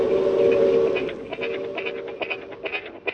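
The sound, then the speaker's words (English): A train whistle sounds in a steady, sustained tone, then gives way to a rhythmic clatter and rush as the Pan-American passenger train passes WSM's radio tower, broadcast by WSM radio each afternoon at 5:08, with a thin, old-broadcast quality. “The whistle and actual rush of the train are broadcast.”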